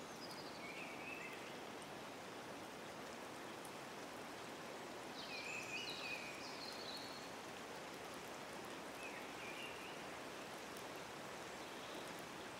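gently flowing water

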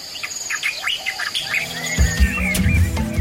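bird calls

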